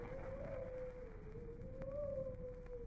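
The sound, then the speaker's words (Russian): A dog named Bobik howls somewhere by a river in one long, unbroken mid-pitched note that wavers gently up and down, carried over a steady background hiss and rumble, with no one speaking. “Слышите? Бобик воет. Где-то у реки.”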